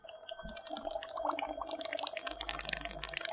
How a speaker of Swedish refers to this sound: Nu kommer vi in i ett växthus med vattenväxter. Och här står det en mängd olika små badkar. Och det bubblar och pyser lite här också.